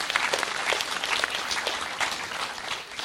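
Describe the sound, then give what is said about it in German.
A room full of people at a church service clapping steadily to welcome newcomers, a dense and even burst of applause that stays fairly loud for a few seconds before easing slightly at the end. “Aber einen herzlichen Applaus kann man trotzdem geben.”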